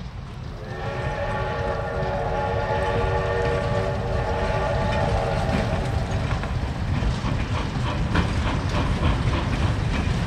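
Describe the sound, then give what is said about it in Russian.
A steam locomotive pulling an express train rushes into a station amid swirling snow, roaring loudly, its horn sounding with steady harmonic tones for several seconds over heavy rumbling and rhythmic clatter of wheels as it rushes past. “Паровоз с размаху налетел на станцию.”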